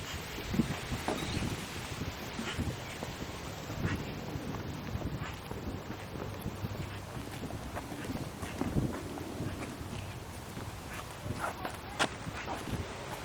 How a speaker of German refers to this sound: Ist das eine Pappel hier? Die Blätter hören sich immer besonders krass an, finde ich. Das ist wirklich ein Geräusch, was ich sehr, sehr mag. Dieses Geräusch von Wind in Bäumen mit Blättern.